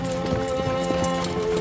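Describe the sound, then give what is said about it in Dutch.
Horse hooves clip-clop in a steady, even rhythm as a horse sets off pulling a carriage, with a continuous low hum sustained underneath. “Het paard zet zich in beweging.”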